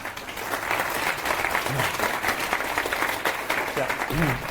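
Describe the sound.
A crowd applauds steadily, a dense wash of many hands clapping at even loudness for several seconds, with a few faint voices murmuring underneath.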